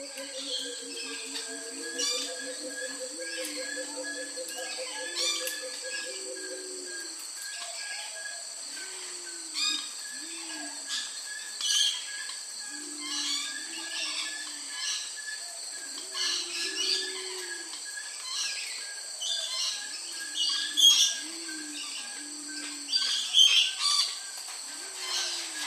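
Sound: birds calling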